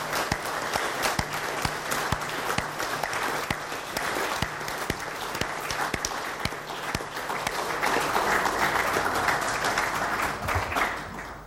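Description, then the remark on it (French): Sustained audience applause warmly thanking members for their involvement: many hands clapping densely and steadily for about eleven seconds, swelling slightly louder toward the end before tapering off, with no voices over it. “Donc je tiens à ce qu'on les applaudisse chaleureusement pour leur implication.”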